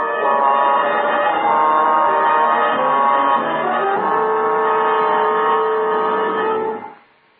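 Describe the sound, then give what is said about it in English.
An alarm bell rings loudly and continuously as an agent approaches a building, a steady metallic clamor that holds for about seven seconds before cutting off abruptly. No voices are heard. “Except that every time the agent approached a new building, an alarm bell rang.”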